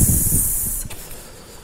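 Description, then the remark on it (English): A voice imitates a snake's hiss, a single steady sibilant hiss lasting under a second before cutting off into quiet. “Whenever we become envious, we should go to the mirror and say, I am hissing.”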